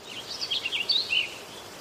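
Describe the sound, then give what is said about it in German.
Several quick, high-pitched bird chirps twitter in a loose cluster in spring, fairly soft, with a faint hiss underneath and no voices. “Die Blumen blühen und die Vögel zwitschern.”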